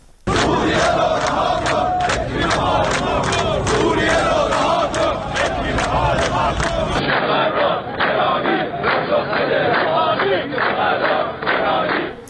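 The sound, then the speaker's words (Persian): A large crowd of protesters, workers of the Ahvaz National Steel industrial group, marching in the streets of Ahvaz, Iran, chants slogans in unison, loud and steady, voices rising and falling in a repeated rhythmic pattern over dense background shouting for the whole stretch. “معترضان دست به راهپیمایی در خیابان‌های اهواز زدند و شعارهایی از قبیل سوریه را رها کن، فکری به حال ما کن و تورم گرانی پاسخ بده روحانی سر دادند.”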